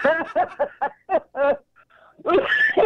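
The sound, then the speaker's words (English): A run of short, voiced, laugh-like bursts, then a brief pause and a loud, harsh cough that trails into a strained, breathy sound. “Sounds like you might need to go back to the doctor with that cough.”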